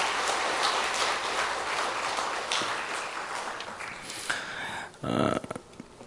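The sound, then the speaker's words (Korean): A church audience at Dream Church claps together in encouragement after a prayer, a dense, steady burst of applause that holds for about four seconds, then thins out and fades, followed by a few scattered claps and a brief murmur. “우리 격려의 박수를 한번 하겠습니다.”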